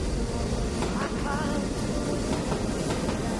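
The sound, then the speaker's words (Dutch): A model railway train runs steadily, a continuous whirring rumble with a faint clickety-clack rhythm and brief higher squeaks, with no voices over it. “Zou jij misschien je spoorbaan heel even af kunnen zetten, alsjeblieft?”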